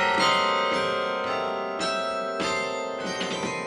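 Carillon bells, ten stories above the sidewalk, ring out in a steady sequence of struck notes from a keyboard and pedals of broomstick-sized wooden pegs, hammered with the fists and, for the largest, heavy-clappered bells, the feet; each strike layers over the lingering hum into a rich, continuous, fairly loud chime with no voices.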